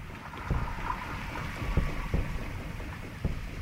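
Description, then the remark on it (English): Orca echolocation clicks tick irregularly through a dense, rumbling wash of underwater noise as the orcas hunt, a handful of sharp taps standing out over the steady hum that resembles a boat engine. “Part of what may sound like a boat to you is actually echolocation. You're hearing a tick-tick-tick.”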